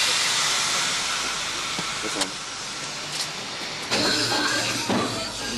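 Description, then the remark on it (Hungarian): An arriving train at a railway station platform gives off a steady, loud hiss of air and rumble, with a few brief metallic clanks and faint voices in the background. “az érkező vonatról is újabb dohányosok lepik el a peront.”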